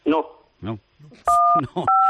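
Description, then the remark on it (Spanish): Two steady electronic telephone beeps, each about a third of a second long, sound in quick succession in the background of a phone call with José María García, interleaved with brief snatches of a person talking. “Pues digo, ten cuidado, te están pinchando ya el teléfono, José María. Digo, que estaba sonando ahí un pitido ahí de fondo.”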